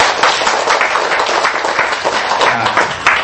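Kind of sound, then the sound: crowd, audience applause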